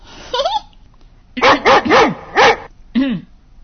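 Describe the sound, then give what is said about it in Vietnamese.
A pet dog named Đốm barks loudly, about six sharp, yelping barks in an uneven sequence, with a short pause after the first and a quick cluster in the middle. “Nhà em có người một con chó.”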